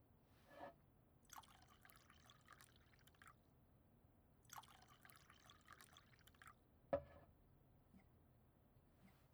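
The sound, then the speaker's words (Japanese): Sake is poured into a cup in two short, quiet streams, each lasting about two seconds, with a soft knock before the first and a sharper tap after the second. The sake accompanies a meal of curry udon. “そしてカレーうどんにもちろんお酒も添えて、この組み合わせならいけるって思うんだ。”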